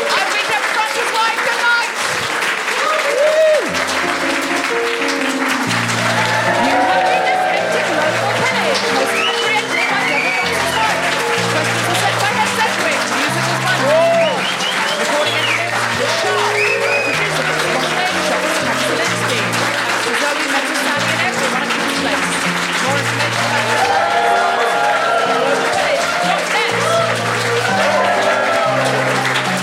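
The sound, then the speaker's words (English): A comedy show audience applauds the comedians steadily and loudly for about thirty seconds, a dense wash of clapping with scattered cheers, while a keyboard plays a bouncy chord tune underneath. “Please give it up for Francesco De Carlo, Danny Carreno, Sydney V, Paul Sinha, Ness Edric, and Dennis Corner, Paul Potter at keyboard.”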